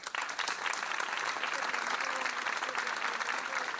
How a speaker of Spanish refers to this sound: Un minuto de silencio, roto por el aplauso.